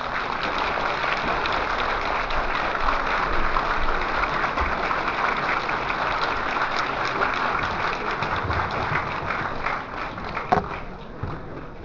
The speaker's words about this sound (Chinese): 今天呢，我们就请李老师为我们讲述他的艺术生涯及感悟，让我们用热烈的掌声欢迎李老师。